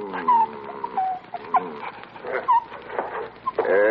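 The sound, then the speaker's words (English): An injured dog being examined whimpers, a string of thin, high-pitched whines that rise and fall, some drawn out and some cut short, with no one talking. “I know how you feel about this dog, but I'm afraid he's beyond help.”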